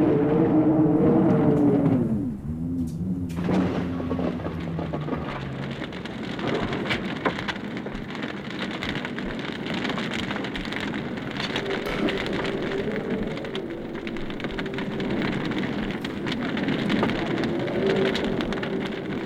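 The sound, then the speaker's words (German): A raging storm with steady, heavy rain pattering, a deep rumble of thunder rolling at the start, and a low continuous roar underneath for the whole stretch. “Hinter den sieben Weltmeeren am Ende der Welt tobt ein Sturm wie ein Hurricane im Bermuda-Dreieck, der niemals enden will.”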